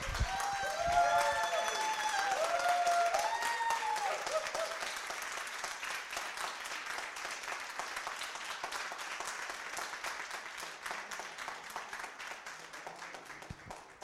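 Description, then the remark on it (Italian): A crowd applauds steadily for the whole stretch, dense overlapping clapping with a few cheers or whoops rising early on, then tapering slightly in intensity toward the end. “Avete sentito l'applauso?”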